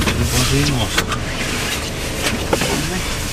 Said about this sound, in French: démarre son bus.